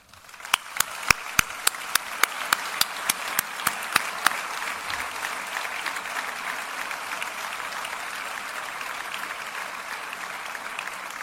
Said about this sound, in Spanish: Crec que ens mereixem tots un aplaudiment.